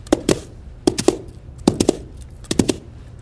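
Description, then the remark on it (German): A foley artist in a sound studio knocks coconut shells together to imitate horse hooves for a horse film scene: crisp, hollow clip-clop beats in quick clusters of three or four, repeating in a steady trotting rhythm with no voices. “Das ist eine Geräuschemacherin, die eine Pferde-Filmszene synchronisiert, und zwar mit Kokosnussschalen.”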